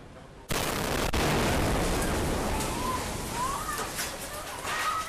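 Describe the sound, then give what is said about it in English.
A quiet moment shattered by a sudden, loud bomb blast at a shrine in Bangkok, recorded on a tourist's cell phone, followed by a sustained roar of rumbling, crackling noise and a second sharp crack, with faint cries rising through the din. “In cell phone video taken by a Chinese tourist, the moment of the blast is captured.”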